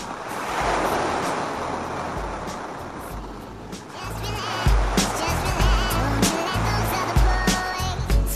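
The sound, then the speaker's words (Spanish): Sea waves break and wash onto the shore in a steady roar of surf, growing busier and louder in the second half with other overlapping noises. “Muy breve es el nombre mío, tres letras tiene no más. El mar.”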